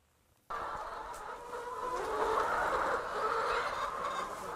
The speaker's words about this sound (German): Da picken, scharren und gackern sie, die weißen Legehennen